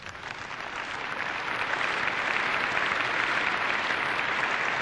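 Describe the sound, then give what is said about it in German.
A crowd claps steadily in welcome for people who have come from other countries, a dense, continuous wash of applause that swells slightly after the first second and holds at an even, loud level throughout. “Das ist euer Applaus, den müsste man ins Polnische, Russische, Englische, Französische, Arabische, Türkische, Spanische, Koreanische und was auch sonst übersetzen.”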